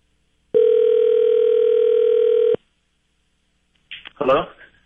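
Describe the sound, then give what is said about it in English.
A single steady, loud ringback tone of an outgoing phone call sounds for about two seconds, then stops; after a short silence a voice answers over the phone line. “which I have to say took like I rang his phone 6 or 7 times.”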